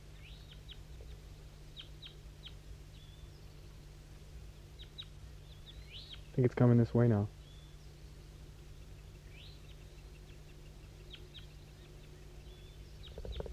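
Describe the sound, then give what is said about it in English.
A wild bird sings faintly in the distance down the hollow, to the southwest, short high chirps and whistles repeating throughout over a steady low hum, with a brief spoken remark partway through. “That wild bird down the hollow started to sing.”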